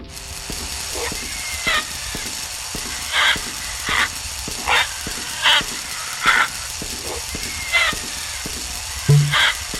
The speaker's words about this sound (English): Now that ding, that means I'm losing lives.